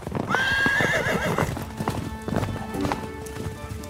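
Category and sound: animal, horses' hooves clip-clopping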